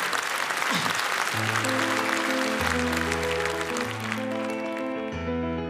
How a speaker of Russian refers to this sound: Стас, под ваши аплодисменты.